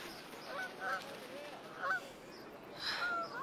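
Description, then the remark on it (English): Geese flying south honk faintly, a few scattered calls spaced about a second apart against a soft, steady outdoor hiss, with no one talking. “Geese are flying south already.”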